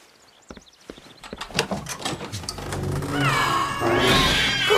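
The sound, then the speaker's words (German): A crowd of cats, collected from around the neighbourhood, meowing and yowling over one another, growing louder and denser, with some sharp clattering knocks early on and no talking. “Was machen denn alle diese Katzenviecher hier?”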